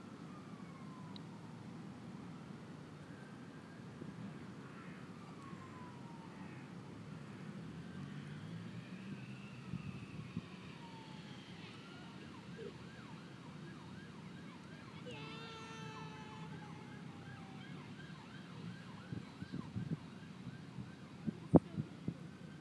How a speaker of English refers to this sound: Should be fine if it weren't for that siren in the background, which I sense is going to die away just before the next plane comes.